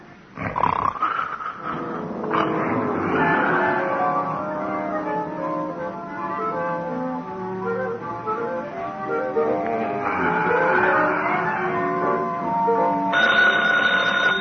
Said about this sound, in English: Yeah? Oh, phone, Gino.